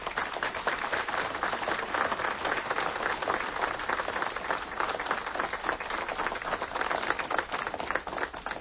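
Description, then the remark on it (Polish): A crowd in Prudnik applauds the young people steadily for several seconds, a dense, even wash of many hands clapping at a sustained, loud level with no voices breaking through. “Wielkie brawa dla naszej wspaniałej młodzieży.”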